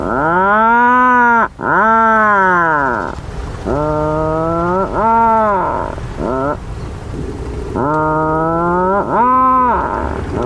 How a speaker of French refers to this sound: Les macareux émettent généralement à travers le sol des grognements bruyants évoquant le bruit étouffé d'une scie à chaîne.